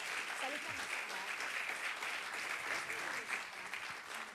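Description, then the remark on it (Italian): Steady applause from a crowd, a dense wash of clapping that holds at an even level for several seconds with a few faint voices mixed underneath. “Un grande applauso, questa è l'edicola.”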